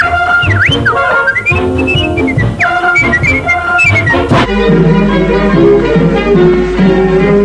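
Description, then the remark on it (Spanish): A short whistled melody, the closing sign-off of a broadcast, with rising and falling glides rings out over a full musical backing for about four seconds, then the music carries on alone without the whistle. “Y será el zorro que cerrará la emisión con el silbidito.”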